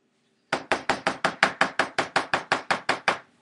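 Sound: knocking on a door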